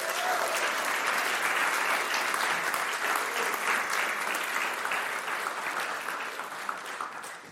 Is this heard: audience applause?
yes